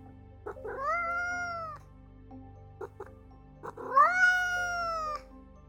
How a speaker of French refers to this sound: recommence à miauler à la porte de mes parents. Je lui propose une friandise, que je garde toujours dans ma chambre, mais rien à faire, il continue de miauler.